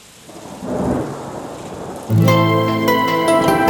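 Steady rain hisses with a low rumble of thunder, then about halfway through sustained musical tones enter and continue over the falling rain. No one speaks.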